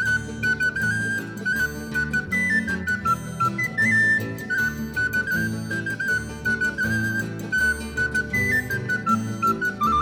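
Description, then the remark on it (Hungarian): Bright whistling imitating a great tit's 'nyitni kék' call, repeated in short stepwise phrases over steady full band accompaniment, with no voices. “Nyitni, de nyitni, de nyitni kék, fütyülöm én is énekét.”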